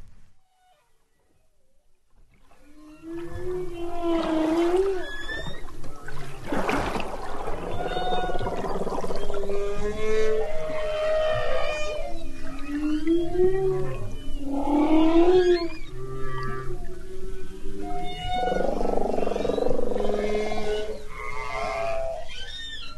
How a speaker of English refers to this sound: Beautiful humpback whales.